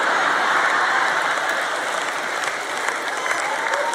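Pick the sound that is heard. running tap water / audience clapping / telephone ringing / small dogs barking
audience clapping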